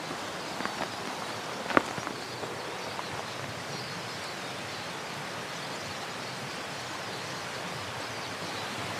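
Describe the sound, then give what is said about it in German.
Water rushes steadily over a small dam in a forest of conifers and beeches, a dense, continuous roar that never lets up, with one brief sharp click near the start and no voices. “Ist jetzt hier nur ein bisschen schwer zu hören, weil es hier auch einen kleinen Damm gibt. Und dadurch rauscht das Wasser sehr stark.”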